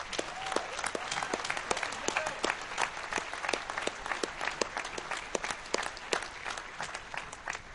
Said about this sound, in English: They really took CTF to the to a really high level that was really tough for us to match, particularly given only 3 months. So let's give those guys a huge round of applause.